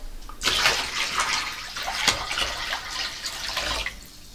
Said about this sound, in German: So, dann darfst du doch jetzt mal mit deinen Füßen ins Wasser.